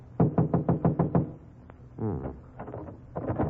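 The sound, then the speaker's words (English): A locked apartment door is rattled hard against its lock in a rapid series of about eight loud thuds, followed by a brief voice and some softer shuffling and clatter. “Door's locked.”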